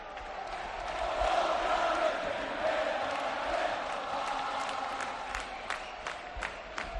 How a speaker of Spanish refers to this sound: Bueno, impresionante el ambiente. Todos ellos acompañando el autobús, yendo de un lado a otro. Hay bocinas también, no sé si se llegan a escuchar. Pero fíjate, escuchad.